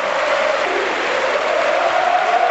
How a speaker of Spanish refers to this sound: Toda la Fonteta de pie. Rafa ya está llorando. Jugadores del Madrid incluidos, aplaudiendo. Gran gesto de los jugadores del Real Madrid. De los árbitros también, ¿eh?